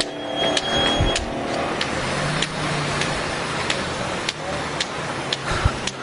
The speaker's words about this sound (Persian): ماشین داره میره، ماشین من فکر کردم یه ماشین واسه که منو ببره، ولی زهی خیال خام، ماشین واسه من و نمیسه، ماشین واسه من و نمیسه.